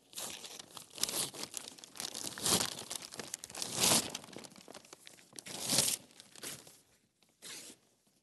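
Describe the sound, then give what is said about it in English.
Two glued-together sheets of paper being pulled apart, tearing slowly and unevenly, a long series of rips and crinkly crackles with several louder bursts of tearing, then a brief pause and a final short rip. “Why don't we go ahead and try to separate those two pieces of paper, okay?”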